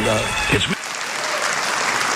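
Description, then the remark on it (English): An audience breaks into steady applause, a dense, even wash of clapping that holds at a fairly loud level throughout, with a brief voice overlapping at the very start. “And those of you who didn't applaud, I'm interested in who you listen to.”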